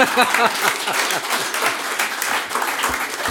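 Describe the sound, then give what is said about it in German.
Steady applause from a theater audience, a dense wash of many hands clapping at a constant, fairly loud level throughout, with a few faint voices mixed in. “Applaus bitte.”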